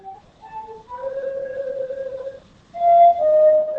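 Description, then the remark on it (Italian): A recorder (flauto dolce), a wind instrument, plays a short, simple tune: a few quick stepping notes, a long held tone, then louder sustained notes a little higher in pitch. Pure, slightly breathy tones, with no voices. “Ma questo è il piffero. Sì, è un flauto sì, dolce. Strumento fiato.”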